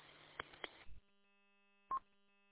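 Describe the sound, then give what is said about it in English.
Quiet telephone tones: a few sharp clicks over a hissy background, then a lull and a single short electronic beep, with no one speaking. “Oops, got a phone call.”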